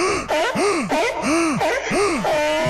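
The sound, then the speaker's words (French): A voice imitates the seal-like panting of a jogger out of breath after ten minutes of running: four loud, rhythmic gasping pants, each rising and falling in pitch like a barking whoop, with no talking. “Sauf que quand ça fait 1000 ans que t'as pas fait de sport, bah, au bout de 10 minutes, t'es essoufflé. Et faut le dire, ta respiration devient proche de celle d'un phoque.”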